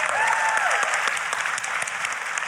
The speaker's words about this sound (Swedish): En applåd för Anders.